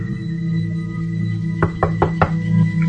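Four quick, evenly spaced knocks rap on a closed toilet stall door, clear, over a steady low background hum with no talking.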